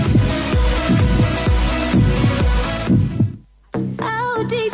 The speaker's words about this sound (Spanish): Siente el latido del Santiago Martín.